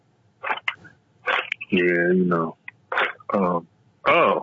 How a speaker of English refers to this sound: excuse me. Last time we talked, I may have to clear my throat, and I was going to put it on mute.